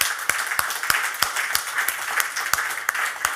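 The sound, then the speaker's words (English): A crowd applauds steadily for a man being called up to join the hosts, a dense wash of clapping with sharper, evenly spaced claps punching through about three times a second, holding the same moderate level throughout. “Give him come a big up, round of applause,”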